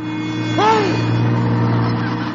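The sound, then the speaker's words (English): A bus, the express to the meat department inside a very large store, drives past with a steady low engine rumble and hum, and a brief whining tone swoops up and back down partway through. No one speaks. “You think a store this big would have bus service?”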